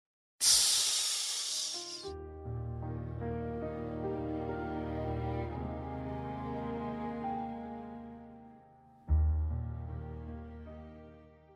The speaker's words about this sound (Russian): «Тссс!» — оглушительно прошептал огромный рот.